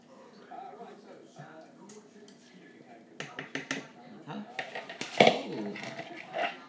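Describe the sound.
A mixture is poured from a plastic microwave bowl into a small saucepan of melting margarine, with irregular clicks and knocks building over a few seconds and a louder clatter near the end, while a voice murmurs faintly.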